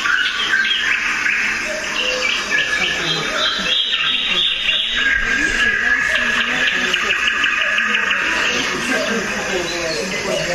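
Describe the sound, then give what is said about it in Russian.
A dense chorus of many nightingales singing at once in a remote village at the edge of a marsh, their overlapping trills, whistles and rapid chirps filling the whole stretch continuously, some loud, others quieter in the background. “Соловьев очень много, да?”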